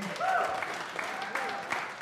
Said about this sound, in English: You know what, you can't talk about wrestling in Philadelphia without the crowds in Philadelphia. And you can clap for yourself.